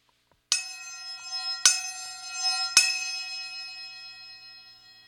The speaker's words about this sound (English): My study references small brass cymbals called chapa. The chapa can produce a vast array of sounds. For example, chapa make ringing sounds.